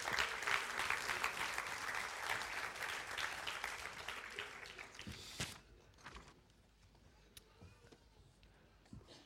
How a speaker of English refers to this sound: Thank you, musicians. Why don't you give these guys a round of applause?